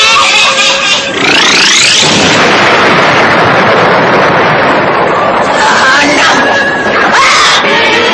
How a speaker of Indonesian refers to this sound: Dia merasakan sakit pada kedua matanya. Dia tadi menjerit kesakitan.